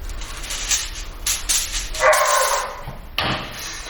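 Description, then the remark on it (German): A hungry dog barks and yips repeatedly in short, insistent bursts, with a brief whimpering whine mixed in toward the end. “Der hört sich wirklich sehr hungrig an.”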